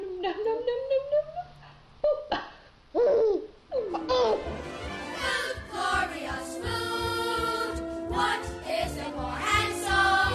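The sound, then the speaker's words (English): A baby eating green beans babbles and giggles in bright, high-pitched bursts, with rising squeals and laughing vocalizations over a faint background hum, no adult speech. “You know, people putting baby videos on the internet is one of my favorite things about the 21st century.”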